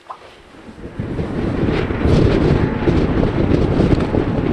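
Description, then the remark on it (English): Gusty wind on a pier in high summer buffets the microphone in a broad, rumbling roar that builds over the first couple of seconds and stays loud, with a faint wash of water underneath. “All geared up, we head back outside into the wind on the pier.”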